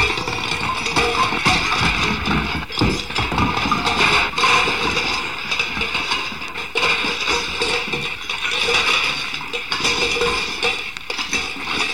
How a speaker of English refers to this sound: Hark! Hear the sound of a distant waterfall. And as we walk down a quaint country path, we can begin to hear the water cascading down the mountain into the stream below.